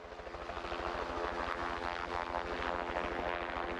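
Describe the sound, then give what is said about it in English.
A helicopter drones steadily, its rotor beating out a rapid, even thumping beneath a loud engine whine, constant throughout, with no voices. “Around 2 million kilograms of 1080 poison bait is spread by helicopters across New Zealand's forests and waterways every year.”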